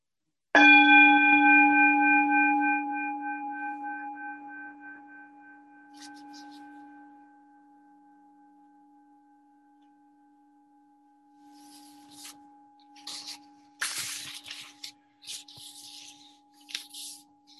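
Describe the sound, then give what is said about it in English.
A meditation gong is struck once and rings out with a rich, sustained tone that slowly fades for many seconds, while faint rustling noises appear near the end. “And when you hear the gong struck, just let go completely.”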